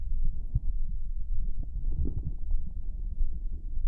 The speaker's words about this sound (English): I think you can hear my heartbeat faded out. You're on my stomach area.